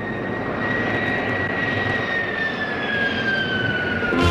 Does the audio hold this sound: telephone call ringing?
no